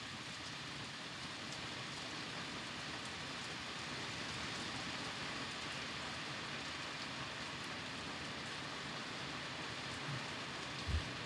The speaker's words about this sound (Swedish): Rikta ut mikrofonen mot regnet så det hörs lite. Så får folk fatta vad det regnar här i solstaden. Oj, det är live-regn.